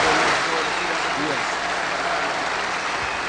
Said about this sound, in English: Let us give another round of applause to our pastor who opened this magnificent building, the Reverend C.L. Jackson.